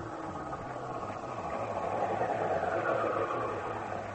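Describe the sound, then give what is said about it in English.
A steady, rumbling roar of a night train running along the rails, with a low droning hum underneath and a constant rushing noise, fairly loud throughout. “Mrs. Carter takes the night train to Capital City to meet her love.”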